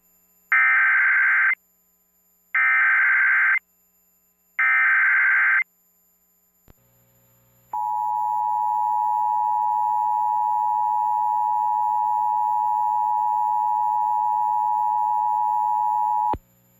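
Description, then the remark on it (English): Three short, harsh digital data bursts in a row, a brief pause, then a loud, steady electronic alert tone holding about nine seconds before cutting off abruptly, from a test of the emergency alert and notification system for Duke Power's Oconee Nuclear Station. “This is a test of the emergency alert and notification system for the Duke Powers Oconee Nuclear Station.”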